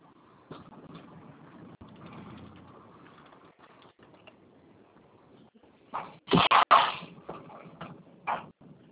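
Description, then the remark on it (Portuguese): A truck engine idles and rumbles steadily as the vehicle maneuvers, broken near the end by a few loud, sharp hissing bursts, with no one talking. “Não, uma manobra Tá. aqui no caminhão.”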